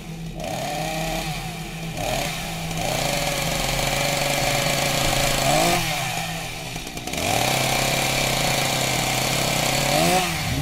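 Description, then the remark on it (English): A chainsaw engine drones loudly, coming closer, its pitch surging and dropping in several revs over about ten seconds, with no voices heard. “And you can hear that chainsaw murderer coming closer, so I'm going to get out of here.”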